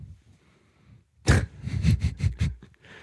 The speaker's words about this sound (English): But sorry, I'm coughing for the listeners.